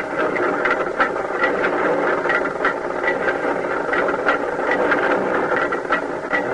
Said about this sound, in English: And soon the sound of our rotary drill broke the deadly silence of the Bayou Chupique.